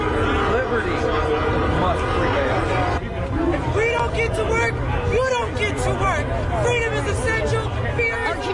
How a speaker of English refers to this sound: Protest sounds, honking horns, chants, and the governor's response were caught on camera.